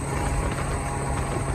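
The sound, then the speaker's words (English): A steady, loud moped engine drone blends with rushing road and wind noise, a continuous roar with a low hum running underneath and no pauses, as the moped rides on highway 275. “So we're now on 275 on a moped.”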